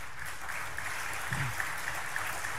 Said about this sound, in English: So I hope that that applause means you'll all be in Manchester.